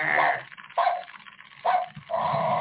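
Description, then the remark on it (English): A tinny, electronic animatronic Halloween skeleton dog toy, bought at Home Depot, barks several times in quick, uneven bursts, the sound thin and band-limited like it comes from a small built-in speaker, with no one talking over it. “We have our own little, our haunted little skeleton dog.”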